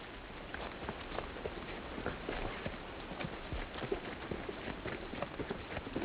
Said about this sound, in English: As usual, it's raining. We're at about 4,000 feet in elevation. Very wet up here. You can get up to 200 inches of rain here.